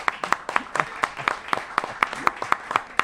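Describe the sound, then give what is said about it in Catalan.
A small group claps steadily, sharp overlapping hand claps arriving in a quick, even rhythm for a few seconds with no voices; strong applause welcoming a guest on a local radio programme. “Un fort aplaudiment.”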